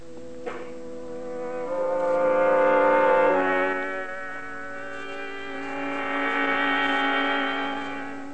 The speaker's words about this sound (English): Look, Mr. Stevenson, here comes a truck.